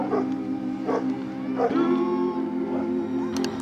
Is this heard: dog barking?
yes